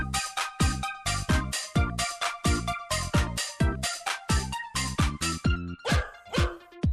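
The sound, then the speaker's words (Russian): A dog barks loudly in a fast, steady run of about a dozen sharp barks, with no pauses between them and no voices. “Это пес, а не пылесос.”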